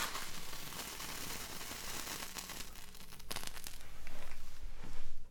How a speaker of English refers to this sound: Oh, nice. The sound of candle lighting. A little crackling in the wax.